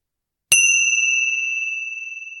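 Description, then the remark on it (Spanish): A small meditation bell is struck once after a brief silence to mark the end of a meditation practice, its bright, pure tone ringing on with a slowly fading, gently pulsing shimmer. Clear, with no voices. “Y realizando un par de respiraciones profundas, al sonido de las campanillas puedes prepararte para terminar esta práctica.”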